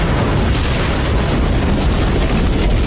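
A grenade explosion, a loud, dense blast of noise with a heavy low rumble that roars steadily for a few seconds without fading. No voices.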